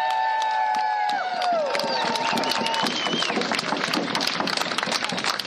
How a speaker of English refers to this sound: We anticipated 400 to 600, and I think we have a little more than that. So let's give everyone a round of applause.